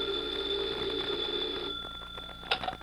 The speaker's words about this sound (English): A few hours later, Agent in Charge Meade is at his desk in the local FBI field office when his phone rings.